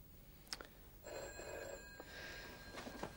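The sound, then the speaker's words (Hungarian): A telephone bell rings in a short burst for an incoming call, its sustained metallic tones starting after a brief knock, moderately loud with no one speaking. “Őt keresik telefonon.”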